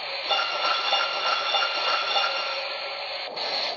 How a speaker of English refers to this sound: The toy workshop is just ahead. Wonderful! Sound the bell and let everybody know we're here.